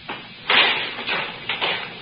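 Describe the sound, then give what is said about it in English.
Guards' footsteps walking up a hall at CBS during a formal ceremony, having just left the second Mr. Burton studio, heard as four soft, scuffing steps at an uneven pace, each a brief broad hiss of moderate loudness over a faint background. “Now, these are the guards walking up.”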